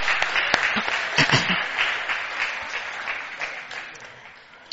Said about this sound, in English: Thank you for your excellent houses. I think we should give them a round of applause for that.